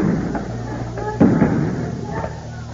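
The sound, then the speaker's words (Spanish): Several muffled pops of tear gas canisters being fired by police at irregular intervals during clashes with students in Barrio Clínica, one sharper bang near the middle, over a steady noisy outdoor background with faint voices. “Escuchan disparos de gases lacrimógenos.”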